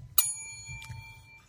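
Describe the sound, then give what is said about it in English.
A bicycle bell rings once with a bright metallic ding, then briefly again, its clear ringing tone lingering and slowly fading over low background rumble. “I love the bell.”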